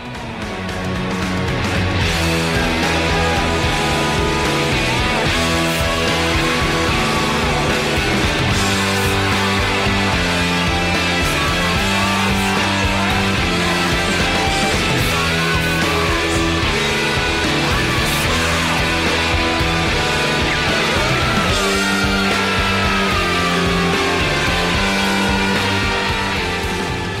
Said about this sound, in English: You know, you have that sort of breakdown in the middle where there's kind of shouting going on in the background, which is really interesting. So let's have a bit of that.